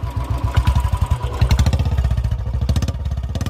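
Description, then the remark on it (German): A Royal Enfield motorcycle engine chugs with a deep, rhythmic burble, steady low thumping pulses that quicken slightly partway through, loud and alone with no voices. “In all ihren Modellen ist das tiefe, rhythmische Blubbern das, woran man sie immer erkennt, ob mit mehr oder weniger Hubraum.”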